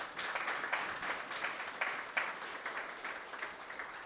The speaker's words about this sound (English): And how about a round of applause even before we begin?